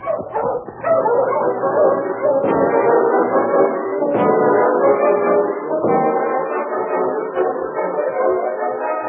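A team of sled dogs barks and yips continuously, overlapping excitedly, with occasional sharper yelps and whimpers rising above the steady chorus as they are halted in front of a cabin in Seahorse City.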